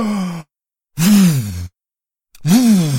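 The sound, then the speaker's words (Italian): A voice imitates the wolf blowing hard at a wooden house, filling its lungs and blowing harder, with three loud, breathy voiced puffs separated by short silences, each rising and falling in pitch like forceful exhalations. “Allora il lupo si arrabbiò, riempì i suoi polmoni con quanta più aria poté e soffiò ancora più forte.”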